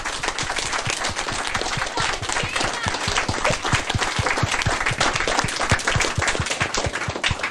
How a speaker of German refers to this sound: Auch ihr habt einen Applaus verdient.